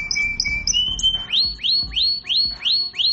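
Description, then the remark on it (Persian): A warbling, nightingale-like whistle: a few quick high chirps over a held tone, then six bright swooping notes repeating in a steady rhythm, with no talking. “سود داره میریزه، اونم از نوع بلبلیش.”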